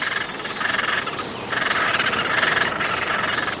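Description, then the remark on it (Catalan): Sharp, high-pitched calls of a great spotted woodpecker (Dendrocopos major) repeat over a steady hiss of dense background noise, arriving in short bursts of a few notes each with brief gaps between them. “picot garser gros, Dendrocopus major.”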